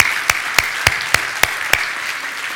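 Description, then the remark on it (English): An audience applauding during a worship service of a spiritual community: a steady, dense wash of clapping with a few louder claps landing in an even rhythm, about three per second, with no voices. “Let's applaud this wonderful day.”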